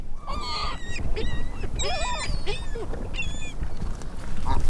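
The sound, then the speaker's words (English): Winter outdoor waterside ambience at Loch Raven Reservoir in January, with a steady low rumble of wind and water, overlaid by repeated honking and quacking calls from geese or ducks, some calls overlapping in quick bursts. “The sounds of Loch Raven Reservoir back in January when I spoke with photographer David Simpson about his book, The Swan at Loch Raven.”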